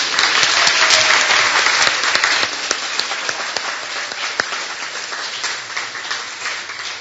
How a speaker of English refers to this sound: That'll be all the questions. We don't have time for any more. I would like to give a round of applause for our presenters.